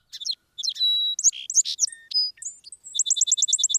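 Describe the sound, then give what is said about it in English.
A song sparrow sings a bright, varied phrase of clear whistles and buzzy notes, ending in a fast, even trill of repeated chips, fairly loud with no other sounds. “the song sparrow initiated the nesting season of the native sparrows on the farm.”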